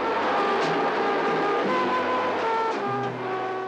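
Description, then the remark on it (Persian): A car engine drones steadily, its pitch shifting slightly as the vehicle moves fast along a street, with continuous road noise and no voices. “ماشینی به سرعت در یک خیابان پیش میاد. با ترمز محکمی میایستد.”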